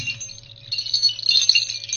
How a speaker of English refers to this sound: There's three different bell sounds, because there's three different bells in this string.